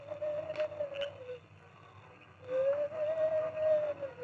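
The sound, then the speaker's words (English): The Lone Ranger imitates an owl as a signal for Tonto, with two long, steady hoots, each over a second, mid-pitched and smooth with a slight rise and fall, separated by a short pause against a low background rumble. “In the front room of the hideout, Carl Pender had also heard the owl hoot.”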